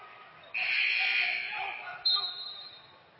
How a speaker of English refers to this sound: And now a whistle and...